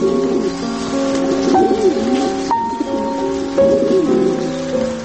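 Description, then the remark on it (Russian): A pigeon coos repeatedly, low warbling phrases rising and falling in a steady rhythm over a constant background hiss like light rain. “Обряд ухаживания, спаривания, когда голубь добивается взаимности, метет хвостом, и вот гудит, и наседает на нее.”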